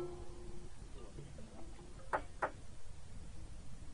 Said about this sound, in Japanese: あれ、誰だろう、ドアを叩くなんて。そう、病室に入るにはチャイムを鳴らすのが常識で、もはやノックする者などいないはずだった。